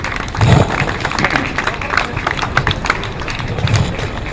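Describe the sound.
A crowd at a rally (Kundgebung) applauds the speakers: dense, steady clapping that fills the whole stretch at a fairly loud, even level, with a murmur of voices mixed in and a few low thumps.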